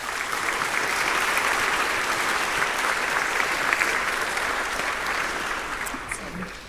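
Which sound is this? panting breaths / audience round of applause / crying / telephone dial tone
audience round of applause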